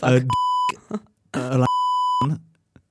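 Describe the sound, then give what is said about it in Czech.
Two loud, steady high-pitched censor bleeps, each about half a second long, cut into speech, with brief bursts of voice before and after each tone. “Ja viem, tak ho vypípaš znova”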